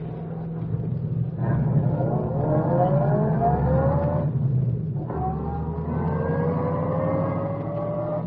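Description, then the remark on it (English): A car engine accelerates on a highway in two loud, sustained surges, each rising steadily in pitch as the vehicle gains speed, over a constant low rumble. “Get ready to start after him as soon as he passes.”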